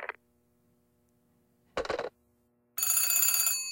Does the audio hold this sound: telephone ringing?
yes